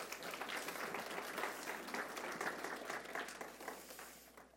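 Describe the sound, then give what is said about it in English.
A room full of people claps steadily for several seconds, a dense, even wash of applause that stays strong before easing slightly at the end. “Give a round of applause to our friends.”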